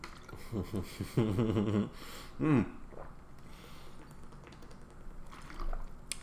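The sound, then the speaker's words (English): Someone sips and gulps water from a plastic bottle, a short cluster of swallows and soft liquid sounds followed by a quieter stretch with faint bottle handling. “Yeah, I mean, I'm sipping mine just pretty casually.”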